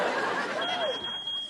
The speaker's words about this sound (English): Yeah, what is that beeping?